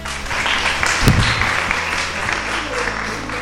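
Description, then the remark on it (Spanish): An audience applauds a European exchange student and her German exchange partner: a dense, steady wash of many hands clapping for a few seconds, with a brief louder burst early on and no voices standing out. “Un fuerte aplauso.”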